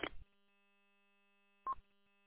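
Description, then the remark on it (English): Two short electronic phone keypad beeps, a second and a half apart, sound fairly clear over a faint steady background hum. No one speaks. “I'll go look at the phone here now.”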